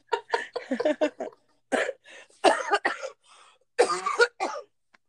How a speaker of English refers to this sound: Fun fact, when I laugh, I cough.